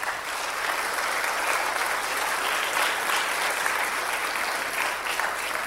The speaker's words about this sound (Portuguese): Podem aplaudir se quiser.